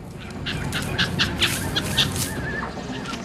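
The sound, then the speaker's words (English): A startled grey monkey in a tree, disturbed by a barge travelling down a narrow, misty rainforest waterway, gives a rapid series of sharp, chattering calls, six or seven bursts in quick succession, loud over a steady rushing background of jungle noise. “The barge travels down a narrow, misty waterway, disturbing a grey monkey in a tree.”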